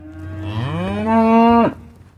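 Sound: cow mooing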